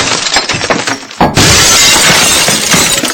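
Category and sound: impact, window glass shattering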